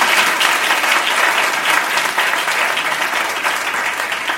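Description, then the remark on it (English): An audience applauds steadily, a dense wash of many hands clapping at once, loud and sustained across the whole stretch with no voices rising above it. “You can clap much better.”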